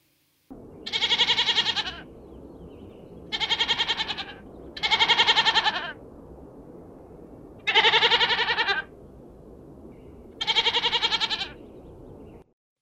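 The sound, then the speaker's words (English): A goat bleats five times in loud, wavering calls, each lasting about a second, separated by short pauses over a low background rumble. “That animal was a goat.”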